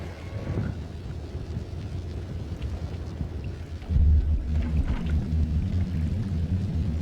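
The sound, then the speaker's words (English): A deep, sustained boat horn booms in partway through and holds to the end, low and droning over steady wind rumble, with no one talking. “I can hear the boat call now.”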